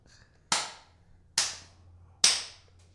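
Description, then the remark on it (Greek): Three slow, evenly spaced hand claps, each a sharp, loud smack with a brief ringing tail, separated by nearly a second of quiet. No one speaks. “Τρία χειροκροτήματα, slow clapping, ευχαριστώ πάρα πολύ.”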